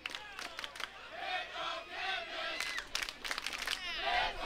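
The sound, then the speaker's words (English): A concert audience cheers and shouts for a band for several seconds, with overlapping raised voices, whoops and bursts of yelling forming a loud, continuous roar. “It sounds like we're a football team or something.”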